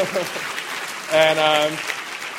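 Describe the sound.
An audience claps steadily throughout for an actress's performance in The Bourne Ultimatum, a dense crackling patter, while a sustained voiced whoop or cheer rises above the applause for about half a second midway.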